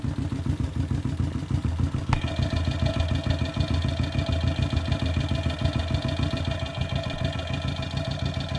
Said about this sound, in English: What I'm going to do next is I want to hear how the mufflers sound. I'm going to press this against the exhaust, and we're going to hear the hot gases moving through it, resounding in the chambers of the muffler.